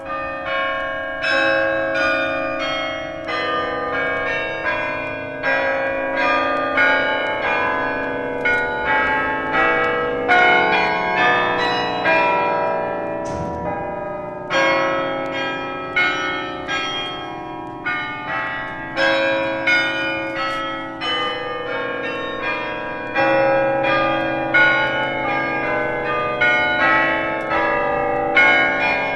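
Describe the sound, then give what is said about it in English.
Carillon bells of a church across a canal ring out continuously in a dense, overlapping cascade of bright tuned tones, steady and fairly loud with an open-air quality and no voices. “And Anne Frank refers to these bells in her diaries. Now, she found the sound quite comforting.”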